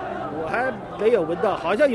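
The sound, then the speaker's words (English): Swimming teams sing together in loose unison as they swim across a river toward the finish line, sustained wavering notes rising and falling over a low murmur of background crowd noise, steady and moderately loud. “And many of them have actually been singing as they swim across the river, as you might be able to hear.”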